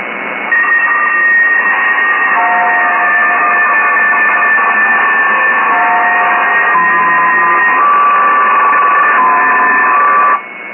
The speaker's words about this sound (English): And it occurred to me that you keep giving bells to everyone else, but you never get a bell yourself. So today, this bell, which is made before 1979, so it's truly vintage, is for you.